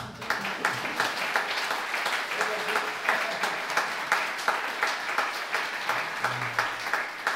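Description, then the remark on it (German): At the end of a concert in the festival hall of the market town of Park Stein, an audience applauds mayor Tanja Schiffmann steadily for several seconds, a dense, crackling wash of many hands clapping with a few sharper individual claps standing out, and faint voices murmuring underneath. “Großer Applaus.”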